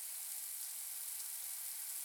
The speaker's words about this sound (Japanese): それにさ、水の流れる音ってなんか良くない？ほら、なんかこう癒されるパワー感じない？こういうのがマイナスイオンってやつだよ。